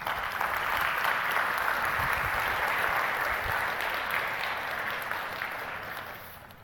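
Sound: applause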